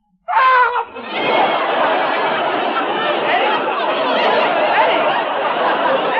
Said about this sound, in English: You just screamed. You went, Well, that. I do that every half hour. Oh. I used to do it every 20 minutes, but the doctor's curing me.